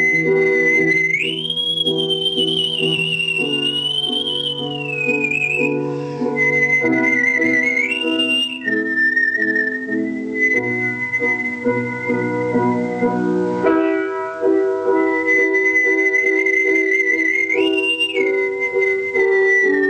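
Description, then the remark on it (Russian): A man whistles a slow, expressive opera aria melody with clear vibrato, the sustained high tone carrying over a steady instrumental accompaniment for the full length, loud. “Я входил в образ, исполняя, допустим, Любашу, я проникал с ее страданиями, и свист окрашивался соответственно, эмоционально.”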